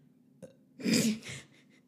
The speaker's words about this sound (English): Bless you